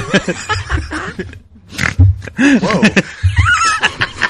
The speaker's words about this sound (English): Holy shit, I snorted.